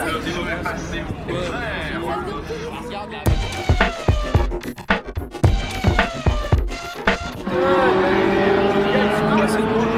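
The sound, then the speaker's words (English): The first two race cars roar past at trackside during a motorsport weekend in a quick run of sharp, loud engine bursts, then a steady rising engine whine carries on, with indistinct voices in the background throughout. “Damn it, missed the first two cars through.”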